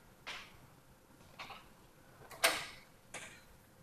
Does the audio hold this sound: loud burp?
no